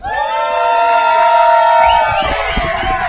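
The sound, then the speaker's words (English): A packed bar crowd in Savannah cheers loudly and steadily for about three seconds in windy weather, a dense roar of whoops and shouts with a few high voices rising above the mass, no single speaker standing out. “This place is packed because of you.”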